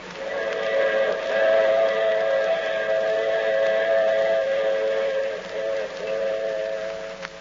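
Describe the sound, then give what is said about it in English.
A train whistle blows a long, steady, loud chord at a railway platform, holding for several seconds with a brief dip before sounding again, over a low rumble of rail noise. “The train platform was empty, save for Lieutenant Gregg and me.”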